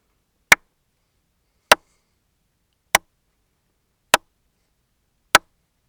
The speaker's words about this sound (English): Here are 5 short claps.